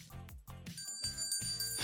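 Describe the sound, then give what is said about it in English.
A bright bell rings out partway through and keeps sustaining its shimmering tone to the end, layered over a louder, low rhythmic backing. “Wait a minute, Chappelle, did you hear that bell?”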